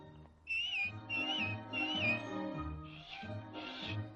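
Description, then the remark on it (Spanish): Three short, wavering whistled notes ring out over soft background music, followed by two breathy, airy puffs that sound like failed attempts at a whistle. “dame un silbidito”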